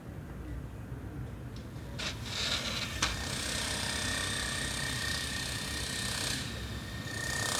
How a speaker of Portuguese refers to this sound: Eles voltaram a fazer a obra. Agora está num dos períodos mais ruidosos, assim.